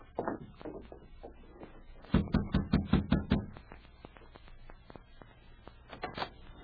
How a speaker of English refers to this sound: Hey, you knock on the door.